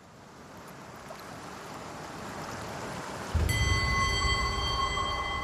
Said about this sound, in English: Midnight in the Philippine Sea. The ocean is warm, windless and flat, shining with the reflections of stars.